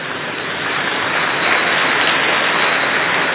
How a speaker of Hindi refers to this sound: बारिश होने लगी, बहुत अच्छा है।